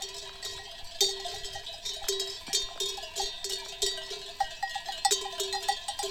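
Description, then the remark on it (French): Many small bells (sonnailles) on a flock of ewes grazing in green grass on the Larzac in southern France in spring clank and jingle irregularly, overlapping in bright metallic tones with no voices, their uneven rhythm following the animals' movements. “Je vous laisse écouter les sonnailles d'un troupeau qui pâture dans l'herbe verte.”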